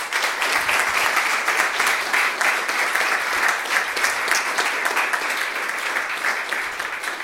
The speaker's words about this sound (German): Genau, erstmal einen Applaus gerne